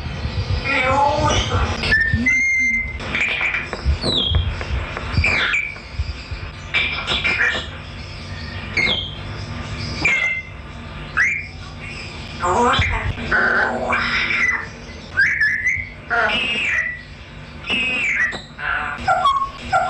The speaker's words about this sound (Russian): Оставляла диктофон и записывала, что говорят попугаи, когда нас никого нет дома. И они между собой разговаривали и общались по-русски, по-человечески. Они в основном себя хвалили, предлагали друг другу еду.